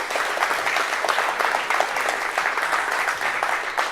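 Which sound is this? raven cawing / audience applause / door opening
audience applause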